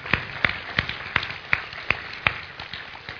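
Steady, rhythmic clapping, as if a crowd claps in unison, with about seven sharp, evenly spaced beats that soften and fade toward the end. Nobody speaks over it.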